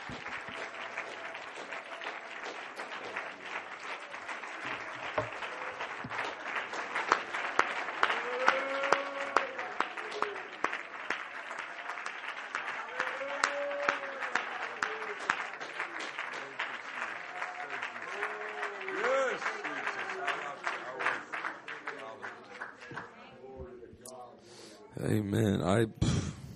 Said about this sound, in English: Amen. Let's give the Lord a big round of applause, everybody. Can you worship God just for a moment longer?